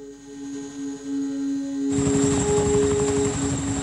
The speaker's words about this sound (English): A helicopter hovers above troops on the move.